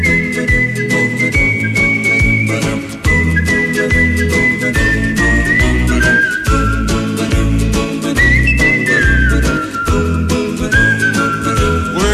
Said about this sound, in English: singing the blues and whistling, too, on Jazzy.